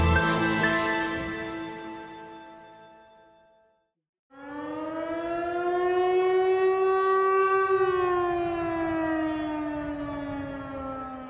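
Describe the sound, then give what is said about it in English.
An air raid siren in Ukraine as Russia launched its full-scale invasion on February 24th, 2022, wails in long sustained tones, the first blast fading out before a brief silence, then a second rising, steady howl swells loud and holds before slowly sliding down in pitch. “On February 24th, 2022, millions of Ukrainians across the country woke up to the sound of air raids and explosions.”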